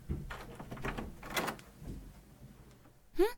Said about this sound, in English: Oh, come on, open up! Fucking... I need to open this goddamn door!